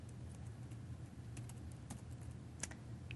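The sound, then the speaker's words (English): Steady typing on a new computer keyboard, a quick run of light key clicks with an occasional sharper tap over a low background hum; no one speaks. “If I go to the, and I find the app dot, this is a new keyboard for me, add event listener.”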